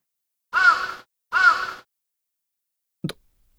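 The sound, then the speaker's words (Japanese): A crow perched on top of a gas lamp gives two loud, harsh caws in quick succession, each about half a second long, followed after a pause by a brief sharp click. No one speaks. “泥棒ってカラスのことか。”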